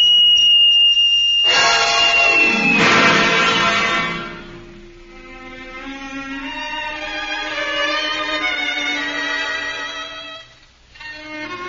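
A whistle is blown hard, bursting into a loud, shrill blast that then holds as a long, wavering, reedy tone for several seconds before cutting off near the end.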